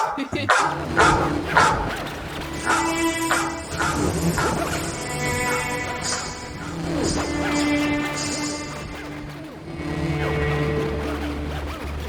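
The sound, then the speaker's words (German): A dog barks and yips in short bursts, fairly soft and partly buried under a busy, tonal background, with a few whimpering sounds between the barks. “Hat nicht so wirklich funktioniert mit dem Hund, oder? Der Hund war zu leise.”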